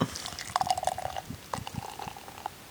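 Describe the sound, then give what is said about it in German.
A beer bottle being opened, heard through a computer microphone, followed by a run of bubbly, gurgling liquid sounds with small irregular pops and a steady mid-pitched fizz, moderately loud, with no talking. “Ich mach's mal auf. Ja. Ah, was für ein Sound, ne?”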